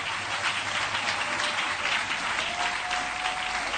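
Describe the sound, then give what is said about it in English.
An audience at a church worship service applauds steadily to welcome a prophet, dense overlapping claps forming a continuous bright wash of sound at a fairly even level throughout, with no voices standing out. “Let's applaud my father.”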